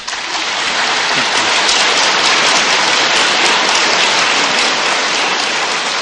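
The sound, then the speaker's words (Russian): Loud, sustained standing ovation in 1990 from a large hall audience that rises to its feet to see off a speaker, a dense steady roar of many hands clapping at once with no break, continuing evenly without any voices rising above it. “Зал встает, его провожают стоя аплодисментами.”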